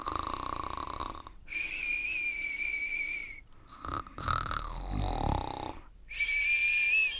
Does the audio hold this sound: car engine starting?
no